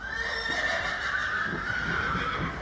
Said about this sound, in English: Horses often talk to each other when they're upset or confused.